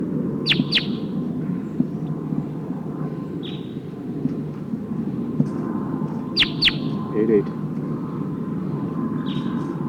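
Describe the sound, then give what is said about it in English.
Sharp, high chip-like calls of a wild Sitkensis-type crossbill in the trees ring out in quick pairs, coming in a few scattered bursts over a steady low rumble. “Oh, sounds like one of the Sitkensis birds is here in the trees.”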